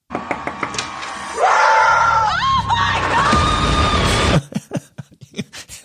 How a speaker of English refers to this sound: But the trailer ends with Vicky screaming, knocking on the door to Tamra. Here, I pulled a little clip of it.